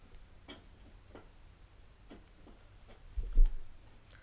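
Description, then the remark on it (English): Padfoot, a pet, gnaws on a hard horn chew he has had for weeks, making irregular dry clicks and scraping crunches with a low rumble underneath, growing louder in a brief burst near the end. No one speaks. “I can really hear Padfoot chewing on that horn.”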